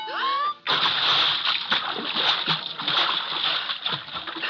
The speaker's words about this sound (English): Did you see the customers throwing baseballs at the target when you were out front? Yeah. Well, when one of them hits the bullseye, I fall out of the chair and into that pool of water.